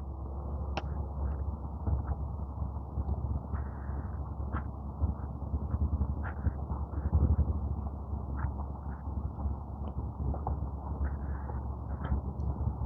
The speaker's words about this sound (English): It's that girl on the skateboard. When I came out, there's a girl on the skateboard running up and down beside the park.